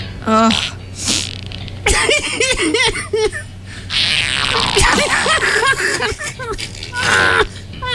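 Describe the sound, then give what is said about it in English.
Loud, blurting fart noises burst out in quick succession, mixed with people's laughter and excited voices, boisterous throughout. “There's 3 things in this world you can count on. Death, taxes, and fart noises are funny.”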